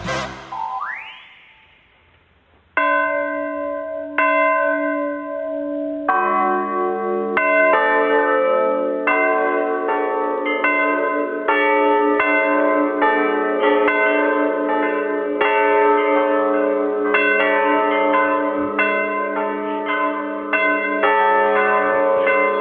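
Bells rung by apprentice bell-ringers at a bell foundry in Belosavci near Mladenovac ring in an overlapping, continuous peal, their strikes layering into a dense metallic wash after a single opening clang fades. Loud, with no voices.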